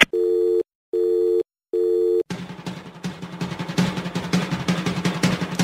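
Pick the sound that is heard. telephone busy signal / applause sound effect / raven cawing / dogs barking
telephone busy signal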